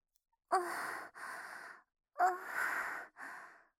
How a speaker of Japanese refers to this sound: ボタン一つで興奮状態になることができます。 興奮状態。息遣いを荒くしてみたり。